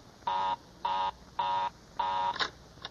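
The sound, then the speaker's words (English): A telephone busy signal on a call placed through an operator: four evenly spaced electronic buzzing tones of about a quarter second each, repeating in a steady on-off rhythm, clear, followed by a couple of brief clicks. “Well, of all the luck, Mary's line is always busy.”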